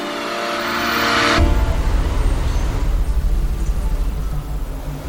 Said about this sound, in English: Okay, it's a very nice car. Thank you. Mercedes.